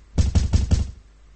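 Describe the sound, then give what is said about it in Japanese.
Four firm knocks on a room door in a guesthouse at night, in a quick, even rhythm, fairly loud, with a dull wooden thud to each, followed by quiet. “しばらくするとノックの音がした。”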